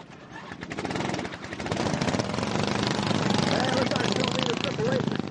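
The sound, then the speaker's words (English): Several racing lawn mower engines sputter and catch as drivers yank the starter cords at a Le Mans-style race start, their rapid rattling pulses building into a loud, steady buzzing roar, with voices faintly audible underneath. “Drivers in boots, long pants, gloves, and full-face helmets sprint across the track, jump on their mowers, and pray as they yank the cords.”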